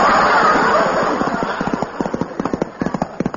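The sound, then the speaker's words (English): Horse hooves gallop in a quick, uneven clatter as a horse is ridden through the countryside, starting out blurred by a rushing wash of noise and then becoming sharp and distinct, pounding steadily to the end. “Paul quickly mounted his horse, took the reins in his hands, and rode through the countryside to warn the people that the British paratroopers were coming.”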